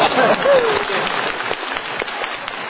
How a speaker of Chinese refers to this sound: 再一次谢谢大家给我的掌声。